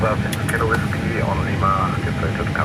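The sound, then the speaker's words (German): An airliner's number 2 jet engine roars steadily as it motors during start-up after pushback, turning for about 30 seconds before fuel and ignition are added; a loud, constant rumble with a thin whine on top, while muffled voices talk over it. “Jetzt geht's los mit dem Triebwerk Nummer 2. Engine 2 Start.”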